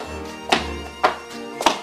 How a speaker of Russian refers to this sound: В это время раздался дверной звонок, сопровождаемый громким стуком в дверь квартиры. Оба эти звука явно намекали на немедленное открытие входной двери.